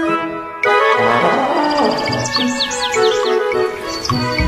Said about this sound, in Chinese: 我有一只大象，真可爱，它长长的鼻子咻咻咻，有只小小麻雀啾啾啾，它每天都在飞，它们是我的好朋友。